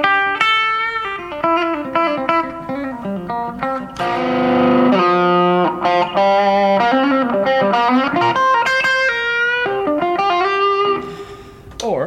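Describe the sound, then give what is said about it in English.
An electric guitar with its middle pickup turned off plays a run of notes and chords with a bright, biting tone and slight grit, loud, with no talking over it. “I'll turn this middle pickup off again. This is mostly how I use it, but I'll either use it to get this bite.”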